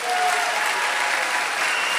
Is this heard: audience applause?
yes